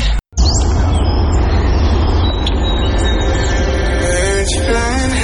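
Migratory birds chirp and sing in short bursts over a loud, steady rumbling background like a passing train, the calls partly buried beneath the continuous noise.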